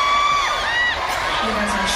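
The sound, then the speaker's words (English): A loud, continuous roar of cheering with high, sliding whoops, like a concert crowd of over 2,000 people, but it is a single woman's voice imitating the crowd rather than an actual audience. “She sounds like the crowd. Who knew she could sound like 2,000 people plus at the same time?”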